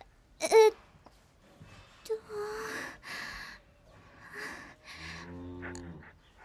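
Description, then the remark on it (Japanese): Breeding cattle low, a few deep, drawn-out moos overlapping one another, ending with a loud, resonant moo. “え、あの牛さんたちなんか怖いんですけど。”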